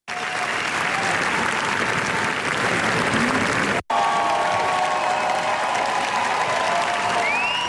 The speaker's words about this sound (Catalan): Encara ressona aquesta ovació històrica de gairebé 20 minuts que ha fet de l'estrena de la Bola Negra dels Javis.